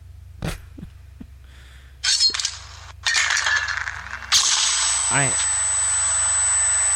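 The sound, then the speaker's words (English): A fragmentation grenade sound effect: a sharp crack and a few metallic clinks, then rough noise bursts building to a loud, sustained blast with hissing roar and a high ringing tone. “That was a fragmentation grenade.”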